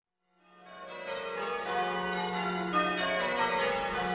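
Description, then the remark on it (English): Church bells rung by bell ringers, pealing in a continuous, overlapping change-ringing pattern, rich metallic tones rising after a brief silence and sustaining steadily, with no voices; listened to from the green in England. “go and sit peacefully on the green and listen to the bell ringers.”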